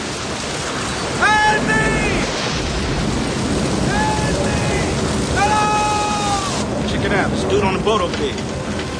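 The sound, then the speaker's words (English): Loud, steady roar of a tropical storm on a river, with wind, a downpour and rushing water filling the whole recording, while voices shout several times over the churning noise. “who's filming the storm. There's a boat by the riverbank.”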